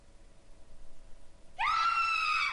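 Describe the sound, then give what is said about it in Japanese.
After a quiet, low hum, a woman's piercing scream erupts suddenly in a video game as the screen fades to black, and holds loud and sustained, a shrill cry with rich harmonics ringing out alone until the end. “で悲鳴。”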